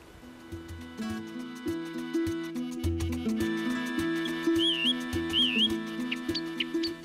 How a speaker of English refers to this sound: We all have different experiences of birdsong. Birdsong forms a backdrop to our everyday lives. Some of us notice it and recognise the changes through the seasons or what species is singing, while others just enjoy the tunes.